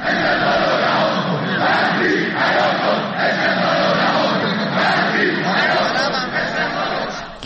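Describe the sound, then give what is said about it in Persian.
A large crowd of Esteghlal football club fans chants loudly and continuously in front of the club building in Iran on a Monday morning, demanding accountability and the club CEO's resignation, many voices shouting together in a steady rhythmic protest cadence with no pauses, a dense wall of raised voices throughout. “هواداران این تیم صبح روز دوشنبه با تجمع مقابل ساختمان این باشگاه خواستار پاسخگویی مسئولان ورزش ایران به این اتفاق شدند.”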